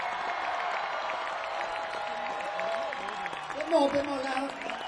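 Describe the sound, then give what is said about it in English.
An audience claps steadily in sustained applause, rehearsing the applause for the end of a musical number, a dense wash of hand claps with a few voices calling out, swelling slightly louder near the end. “So I would like to now just rehearse the applause at the end.”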